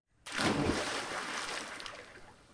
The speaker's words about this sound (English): He grabs a rope and strips off all of his weapons save one, and his shirt, and then leaps over the side, hitting the water with a splash.